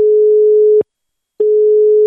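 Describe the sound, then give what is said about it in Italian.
A steady telephone line tone, loud and clear, plays in two long bursts separated by a short gap of silence, like a ringback heard while a call from a municipal office connects. “Vai telefono, vai ciccio.”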